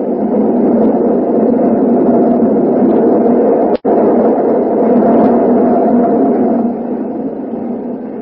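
The L, an elevated train, roars right past the window, shaking the whole building, in a loud, steady, rumbling wash of noise that holds for several seconds, broken only by one abrupt instant of silence, with no voices.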